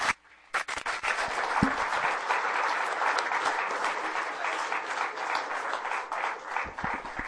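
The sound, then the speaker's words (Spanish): A crowd at a seminary bursts into loud, sustained applause to thank a guest, many hands clapping in a dense, steady wash of sound that holds strong for several seconds. “Muchas, muchas gracias por estar aquí, les invitamos para que podamos darle un aplauso fuerte a nuestro hermano y darle las gracias así.”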